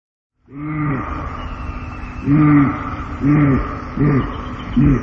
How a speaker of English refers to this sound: Bellows that pierce the autumn air indicate that the male elk has entered breeding season, also termed the rut.